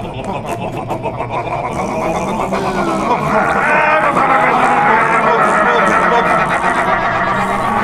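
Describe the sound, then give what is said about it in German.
Several men loudly imitate a ship's engine, making continuous throaty rumbling and sputtering noises that swell slightly and keep going without a break. “Was nützt einem ein Motor, wenn man den nicht mal hört? Männer, Maschinengeräusche!”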